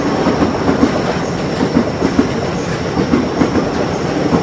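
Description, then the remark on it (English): A crowded train that is not stopping rumbles past on the rails by a very busy street, with a steady, loud roar and a rhythmic clickety-clack of wheels over track joints, continuous throughout. “There's a train that's not going to stop. And that's really crowded.”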